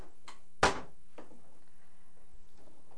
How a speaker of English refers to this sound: We're opening drawers everywhere. You're gonna hurt your fingers. You gotta put locks on those, huh?